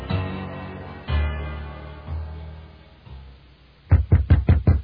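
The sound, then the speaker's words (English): A low, sustained musical passage fades out, then five loud knocks rap on a door of a closed museum at 3 o'clock in the morning in a quick, steady rhythm. “Who's knocking? It's 3 o'clock in the morning.”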